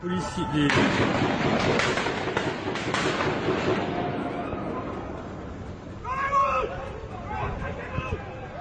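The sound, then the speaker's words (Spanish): Rapid bursts of gunfire from a terrorist attack crack through the large, echoing Bataclan concert hall, densest in the first few seconds, over a constant din of shouting and distressed voices that rises again near the end. “Este es el sonido del tiroteo que se producía en la sala de conciertos Bataclan.”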